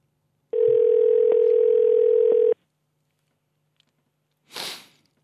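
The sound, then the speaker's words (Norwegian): A steady electronic ringback tone of an outgoing phone call placed by a radio host sounds for about two seconds, loud, then silence follows before a short soft rustle or breathy noise. “Sånn. Prøver vi å ringe.”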